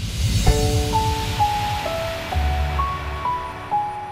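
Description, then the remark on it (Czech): A time machine sound effect, set to travel back to the year 1403: a rushing, wave-like whoosh with low rumble beneath a sequence of clear electronic tones stepping up and down in pitch, steady and fairly loud, no voices. “Rozkaz kapitána, takže pozor, nastavuji stroj času a směřujeme znovu do roku 1403.”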